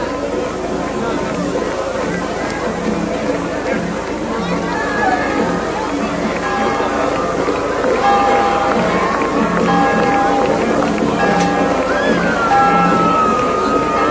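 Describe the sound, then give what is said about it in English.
The victory bell at Coldwater High School rings at night after the Cardinals' 34-14 football win over the Sturgis Trojans, its repeated clear, ringing strikes sounding through a steady roar of crowd noise and cheering voices. “Well, let's tune in to the ringing of the victory bell.”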